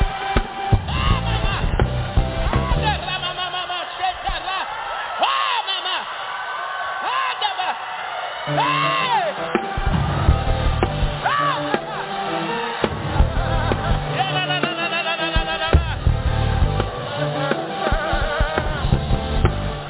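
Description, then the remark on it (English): A crowd shouts and whoops loudly and continuously, many overlapping voices rising in excited yells and high whoops, filling the whole stretch without pause. “You taking too long. If you was going to shout, you should have shouted by now.”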